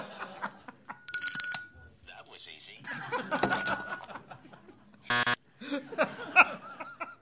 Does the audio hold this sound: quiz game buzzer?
yes